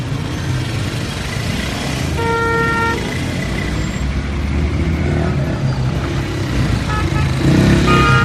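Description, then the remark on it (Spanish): Dense street traffic in Kabul, Afghanistan, roars steadily with engines and rumbling vehicles, heard while crossing a road; a car horn toots clearly around the middle and other honks and engine revs surface through the continuous din. “Con este sonido, Ayestarán ha escrito: así se cruza una carretera en Kabul, mucho tráfico y mucho caos en esta parte de la ciudad donde los afganos que se van venden todas sus pertenencias.”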